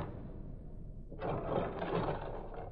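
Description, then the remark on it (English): An elevator's machinery runs with a low, steady hum, then after about a second a louder rattling, grinding whir kicks in and continues to the end. No one speaks. “This elevator takes all day.”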